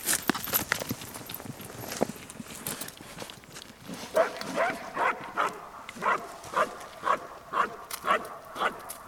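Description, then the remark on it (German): A police service dog barks repeatedly in a steady rhythm at a padded police officer acting as a suspect. The barking is loud, with a burst of sharper barks and noise early on, followed by regular, evenly spaced barks. “Und auf Kommando des Hundeführers sollte der Hund aufhören zu bellen.”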